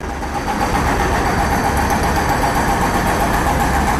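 Heavy machines breaking up asphalt at Slavija Square in Belgrade, Serbia: a loud, steady engine roar with a dense, gritty rumble and a faint rapid rattling running through it for the whole stretch, with no talking.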